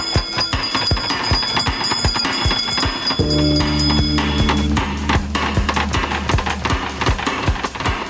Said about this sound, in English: give us a hint by ringing a bell.